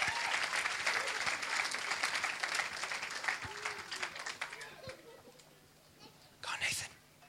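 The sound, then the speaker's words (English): An audience claps steadily for about five seconds, a dense patter that gradually thins and fades, followed by a brief burst of breathy noise near the end; the clapping thanks volunteers who acted as a teaching aid. “Let's give him a clap.”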